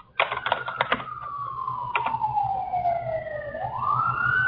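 A person whistles one long, steady note that slides slowly downward and then swoops back up, sounding like a siren, after a quick burst of clicky, keyboard-like tapping at the start.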